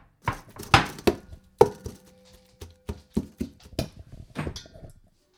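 Moss from a yard and 2 cups of yogurt being mixed by hand in a big bowl: about a dozen sharp wet thumps and squelches arriving in an irregular rhythm with brief pauses, and no one talking.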